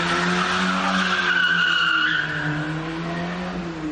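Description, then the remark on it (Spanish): Tires squeal loudly in a sustained, high-pitched skid over a steady low engine roar as two thieves flee by car after robbing a jewelry shop in Moreda in the early hours of 31 October; the screech rises and wavers before easing slightly. No voices. “Es la huida de dos ladrones que acaban de desvalijar una joyería en Moreda.”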